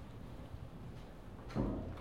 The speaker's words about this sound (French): T'entends ça? C'est cette espèce de... comme une porte qui grince. C'est vous qui faites ça?